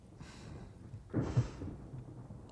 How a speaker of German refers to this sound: Ich glaube, ein Gewitter zieht auf. Ach, rück ein bisschen näher, ja? Wie es donnert.